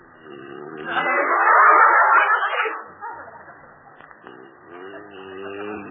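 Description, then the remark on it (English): A single loud, breathy sneeze bursts out, followed by softer, low murmuring sounds that trail off quietly. “Gesundheit.”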